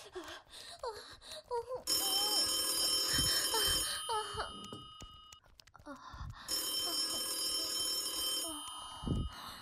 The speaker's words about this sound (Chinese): 操！谁他妈这时候打电话过来？